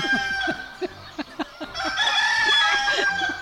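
A rooster crows loudly, with a series of short, rhythmic clucks at first, then a drawn-out, strained cock-a-doodle-doo over faint farmyard background noise.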